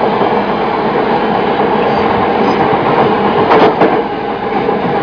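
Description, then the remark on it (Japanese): A train rumbles steadily along the rails as it reaches the final stop of its line, a dense continuous roar with a brief sharper rattle of wheels partway through. No one speaks. “この列車の終点です。お出口は右側です。”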